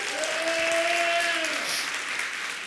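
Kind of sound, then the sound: crowd, audience clapping hands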